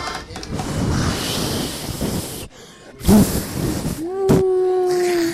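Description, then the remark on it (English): A voice makes a breathy, hissing whoosh to imitate tornado wind, sustained for a couple of seconds, then trailing into a rising vocal tone and another airy rush near the end. “Can you hear the tornado?”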